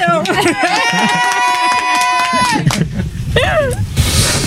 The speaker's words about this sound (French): Et puis, il y a toute la famille qui me regarde, là. On les entend pas, mais il y a du monde autour. Vous pouvez applaudir.